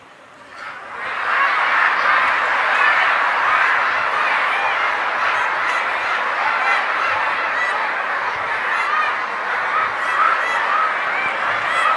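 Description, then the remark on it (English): A crowd of voices imitates duck quacking all at once, a loud, dense, overlapping chorus that starts after a quiet first second and carries on steadily to the end. “Just like the ducks, they would sit and quack.”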